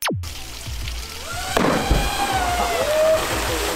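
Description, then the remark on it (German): A heavy splash hits the water midway through as a man in a wetsuit jumps from a high bridge into the water, followed by churning, sloshing water and scattered droplets. No voices are heard. “Das war ein richtig großer Platscher, den wir da gesehen haben.”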